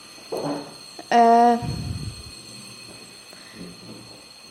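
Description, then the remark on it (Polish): A school bell in a school signals the break: one short, loud electronic tone, steady and buzzy with a rich harmonic ring, lasting under half a second, with faint murmuring voices before and after. “No właśnie, to jest dzwonek na przerwę.”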